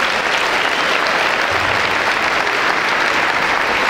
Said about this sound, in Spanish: Así que si alguien te está llamando, dale un aplauso de donde estás.